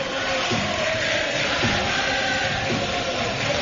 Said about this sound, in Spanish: Y la afición del Recre, escuchen. Por palmas. Tan características de este estadio del nuevo Colombino.